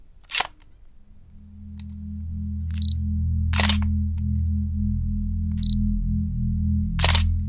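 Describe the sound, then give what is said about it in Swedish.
Several crisp camera shutter clicks snap at irregular intervals, each sharp, over a low, steady droning tone that hums underneath throughout, as mugshot photos are taken of an arrested woman at a police station in West Hollywood. “Efter att ha tagit sitt mugshot lämnas hon för att nyktra till i en cell.”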